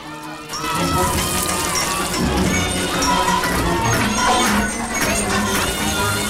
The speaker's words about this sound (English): Okay, look at these pipes must lead to a building or something. A foundation. So maybe if we bang on them hard enough, if we make enough noise. They begin frantically banging on the network of pipes above them.